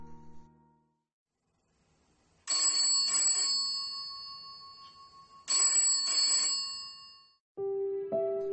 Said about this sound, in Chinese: 2天后，1986年2月21日上午9点37分，睡梦中的周锦瑜被电话吵醒，对方自称是报社的记者